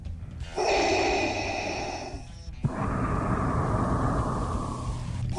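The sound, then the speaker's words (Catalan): Heavy, rasping breathing heard over a newsroom telephone line on picking up the receiver to make a call: one long, loud inhale with a faint whistling tone, then a longer, hissing exhale, steady with no talking. “Sents respirar a l'altre costat del telèfon?”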